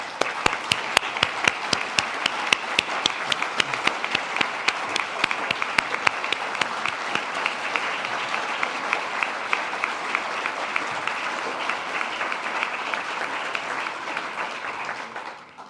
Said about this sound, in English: So can we give her a round of applause?